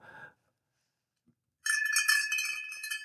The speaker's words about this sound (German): Kühlschrank aufmachen und die Milchflasche in der Kühlschranktür klirrt.